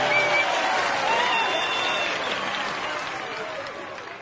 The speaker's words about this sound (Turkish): Alkışlayalım hep iyilikleri. Alkışlayalım dinleyenleri. Alkışlayalım hey gülen yüzleri.